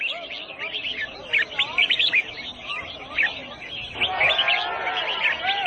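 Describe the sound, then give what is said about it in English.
Many caged exotic birds, illegally captured in the rainforest and sold at a marketplace, chirp and trill at once in a bird singing competition: a dense, overlapping chorus of high, bright calls, with a crowd murmuring faintly underneath and the singing swelling louder toward the end. “In this marketplace, people have gathered to sell exotic birds, illegally captured in the rainforest, sold for the highest bid, and here, participating in a bird singing competition.”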